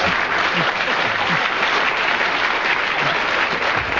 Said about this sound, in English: I don't know whether the audience are applauding because they agree or just applauding your magnificent performance,